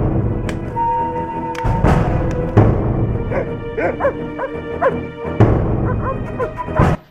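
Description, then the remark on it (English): Several sharp dog barks and yips ring out in bursts over a busy, noisy background, loud, with a few higher whimpering yelps between them. “This dog barking is a historically accurate touch there.”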